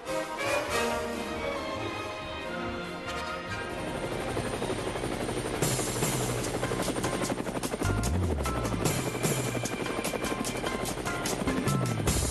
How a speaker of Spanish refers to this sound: Bueno, ahí está el helicóptero de Levántate Cuba, que ya es un helicóptero mayor